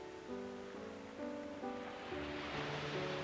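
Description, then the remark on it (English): Ocean waves breaking on shore, a soft hissing wash of surf that swells louder toward the end, with gentle sustained musical tones playing steadily underneath and no voices. “Hear the sounds of the waves, the rhythm of the ocean.”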